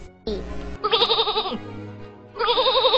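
Two loud, quavering sheep bleats, each wavering for about a second with a short pause between them, preceded by a few low muffled sounds.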